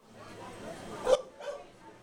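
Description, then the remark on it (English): Dogs bark in a couple of sharp bursts over a steady murmur of a crowd and background chatter, with yips carrying; more than 200 dogs and their owners gather at a sports center in Middlebury, Vermont, at a film screening attempting a Guinness World Record for most dogs. “More than 200 dogs and their adoring parents gathered at the town's Memorial Sports Center in an attempt to break the Guinness World Record”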